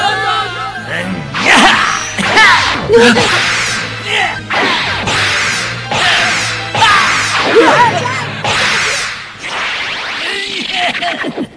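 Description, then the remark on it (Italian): A whip is handled skillfully as a weapon, lashing through the air again and again, loud swishes ending in sharp cracks, roughly every second over a low steady hum. “Maneggi con grande destrezza quella frusta.”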